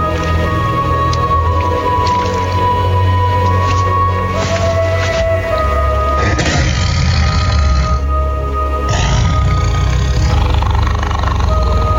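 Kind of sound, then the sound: animal, tiger roaring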